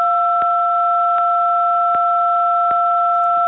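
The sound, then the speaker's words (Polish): A telephone keypad tone from a button pressed on a listener's phone during a call to the programme sounds as a steady, moderately loud two-pitched electronic beep held without a break, with faint clicks ticking at regular intervals through it. No one speaks. “został wciśnięty jakiś guzik w telefonie.”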